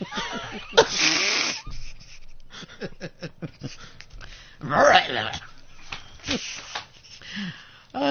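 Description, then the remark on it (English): Pigs grunting in an irregular series of rough, snorting bursts, with a few louder squeal-like outbursts standing out among softer, lower grunts. “Shut up, I'm talking to the pigs, Google, okay.”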